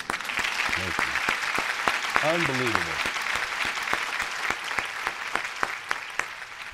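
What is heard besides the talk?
studio audience applause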